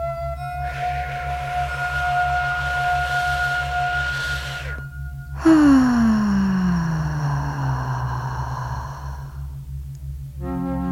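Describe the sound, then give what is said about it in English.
Two long, slow breaths, a drawn-out inhale followed by an equally long exhale, steady and unhurried, over a soft droning tone and a steady low pulsing beat. “When you are relaxed and calm, your breathing is slow, deep, and even, like this.”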